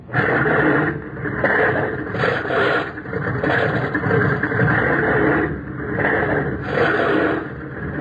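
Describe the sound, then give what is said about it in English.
Propeller aircraft engines of planes on the Hornet start and turn over, roaring in a loud, continuous, rough drone that surges and swells in waves without any pause. “Stand clear of propellers. Stand clear. Hurry. All clear. All clear. Start your engines. Turn them over.”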